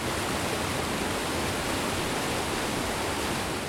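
waterfall

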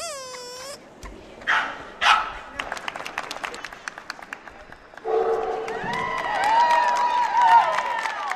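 dogs barking

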